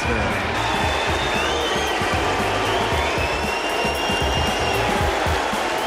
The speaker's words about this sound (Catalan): Aquesta és l'escridassada que s'ha endut Novak Djokovic aquest matí hora nostra quan s'ha retirat de l'Open d'Austràlia just després de perdre el primer set de la semifinal que l'enfrontava a l'alemany Zverev,